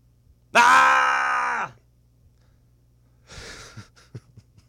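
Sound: person screaming loudly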